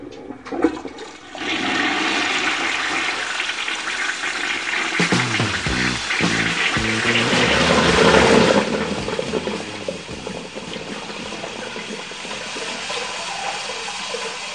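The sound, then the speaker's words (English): A toilet flushes loudly, a sudden rushing gush of water swirling for several seconds before settling into a steady refilling hiss. No one speaks. “You know, at this point, there's only one thing left we can do. What's that? Flush Rush.”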